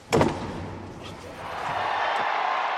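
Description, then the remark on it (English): The heavy Sistine Chapel doors in the Vatican slam shut with a loud, booming impact that echoes, as the conclave begins on May 7th, 2025, followed by a swelling murmur of a crowd. “As Archbishop Diego Ravelli, the Vatican's master of pontifical liturgical celebrations, called for all to exit and close the Sistine Chapel doors, the conclave officially began on May 7th, 2025.”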